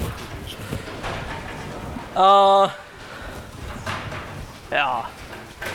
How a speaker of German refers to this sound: Macht ihr mal bitte die Tür wieder gleich dann zu. Tür zu.